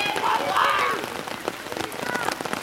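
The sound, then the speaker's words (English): Steady heavy monsoon rain patters and hisses across surfaces at a park in Kolkata, with dense scattered drops and faint shouts of boys playing soccer in the rain mixed into the wash of the downpour. “But then, at a park near the house, I stumbled upon a group of boys playing soccer in the rain, joyfully splashing in the mud, still embracing the pleasure of a monsoon with full-throated glee.”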